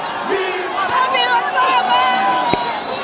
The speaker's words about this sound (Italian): È incontenibile la gioia. Piazza San Pietro inneggia Papa Francesco. Bandiere di ogni nazione, volti di tutti i colori e di ogni età, bambini, famiglie, anziani, religiosi, laici.